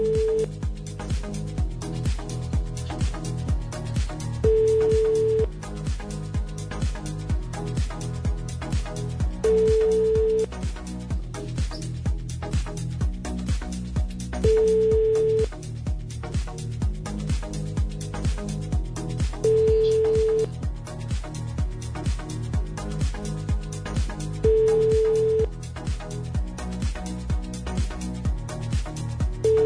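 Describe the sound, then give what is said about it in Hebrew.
An outgoing phone call to a woman's husband, placed to surprise him on his 28th birthday, rings repeatedly, with short steady ringback tones sounding about every five seconds, six in all, over a busy musical backdrop and no talking. “הטלפון שלך לא משהו, אז בוא ננסה לנהל את זה ככה, בוא נתקשר אליו.”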